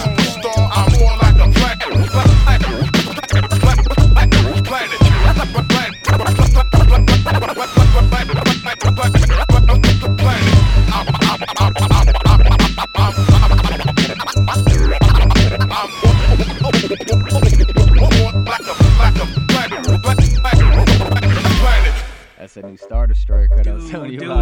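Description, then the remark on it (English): A loud, punchy hip-hop beat with a steady, repeating kick-and-snare pattern and scratchy record-scratch cuts layered over it, running continuously before cutting off abruptly near the end. “Dude, this beat is dope.”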